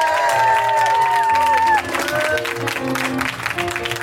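audience applause and cheering

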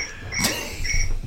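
cricket chirping

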